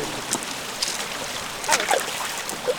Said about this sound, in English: Oh my God, it's like a cathedral of ferns. With these waterfalls cascading down the cliffs. Incredible.